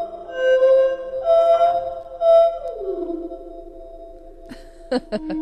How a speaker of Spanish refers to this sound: Hacen un sonido muy raro para ser pájaros. Sí, sí. Cordones africanos, dices que son, ¿no? Cordones azules. Tocan el tam-tam.